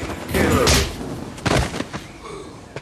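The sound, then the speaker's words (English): A heavy punch to the face lands with a dull thump out the back of a laundrette, among lines of hanging sheets, followed a moment later by a second sharp impact, with scuffling commotion and rustling around them. “Then Chris thumps him in the face.”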